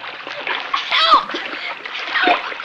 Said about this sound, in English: Bobby is thrown into the raging river, and Cisco dives in to save him.